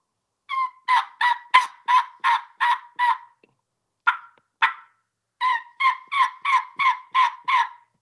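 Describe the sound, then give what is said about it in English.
A three-reed mouth call, a tear-out with a slit, imitates young turkey hen yelps: a quick run of six clear, raspy notes, two isolated yelps, then another fast series of seven, loud, with no talking. “This is a three reed call.”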